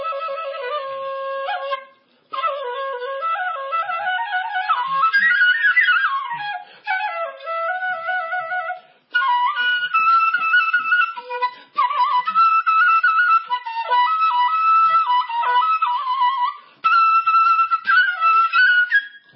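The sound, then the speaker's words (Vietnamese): A solo Vietnamese bamboo flute plays a pentatonic melody, clear, with sliding pitch bends and ornamented notes in several phrases separated by brief breath pauses. No one speaks. “thì tiếng sáo thì nó thuộc cái dạng ngũ cung”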